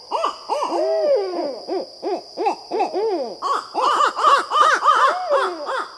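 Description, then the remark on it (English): A pair of owls caterwaul in a courtship duet, loud, wavering hoots and cackles tumbling over each other in quick overlapping bursts that grow denser and more frantic, over a faint steady high whine. “If he had attracted a mate, I would have been hearing a duet like this, a caterwauling courtship that can sound downright peculiar.”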